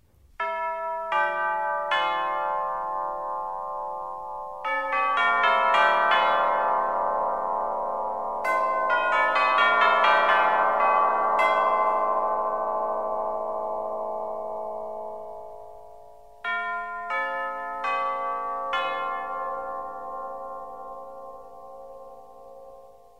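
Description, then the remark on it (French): Orchestral tubular chimes with large tubes struck one after another in a slow descending and rising pattern, each metallic bell tone ringing out and overlapping with long, shimmering decay, clear, with no voices. “Le carillon tubulaire, avec ses éléments de grand format, se rapproche davantage du son des grosses cloches.”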